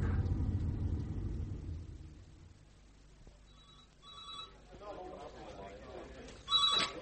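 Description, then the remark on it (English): A telephone rings in short, repeated trilling bursts at moderate volume, following a low rumble that fades out, with faint indistinct voices in the background. “some bird on the phone for you.”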